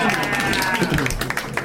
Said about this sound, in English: That's the first time that movie has gotten a round of applause.